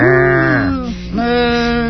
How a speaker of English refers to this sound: Ah, the farmyard at last. How good it is to smell new mown hay. To hear the cows lowing in the pasture.